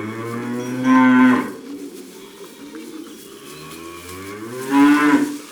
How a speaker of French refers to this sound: Dans l'étable, il fait sombre et les vaches mangent du foin, de l'herbe sèche. Comme elles font meuh, on dit qu'elles meuglent.